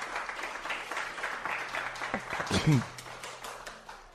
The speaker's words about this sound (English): Guys, give Brian a round of applause.